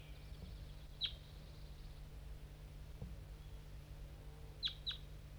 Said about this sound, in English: It's 7:45 and 5-3 is responding. There's a wild crossbill around somewhere. Maybe not the same one I just heard before. This one's coming from the bottom of the hollow.